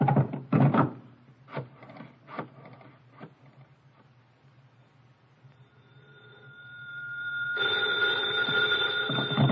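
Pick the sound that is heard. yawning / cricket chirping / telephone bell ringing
telephone bell ringing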